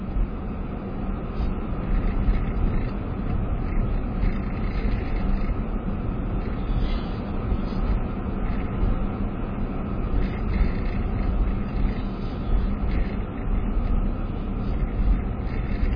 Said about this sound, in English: The road is bouncing us around here. There's a lot of road repair here because the road freezes and breaks and all of that.